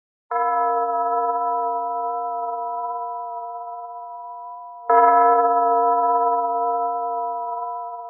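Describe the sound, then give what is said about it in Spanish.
Small old church bells of the ancient little church in Bonn, Germany, ring out in two clear strokes about four seconds apart, each tone humming on with a long, slowly fading resonance, with no voices around. “Luis quería mucho las campanas de la antigua y pequeña iglesia de Bonn.”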